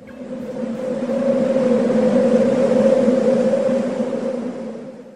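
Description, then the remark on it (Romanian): Wind whistles and moans in a steady, sustained drone with a breathy rushing layer, swelling slightly in the middle and easing off at the end. No voices. “Corect, a fost șeratul vântului.”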